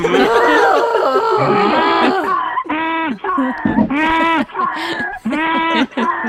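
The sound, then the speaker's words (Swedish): A bull bellows in a run of loud, drawn-out calls, one after another with brief pauses between them. A rougher stretch of noisy bellowing comes first, then the calls grow more regular. “Men tjur, det stämmer.”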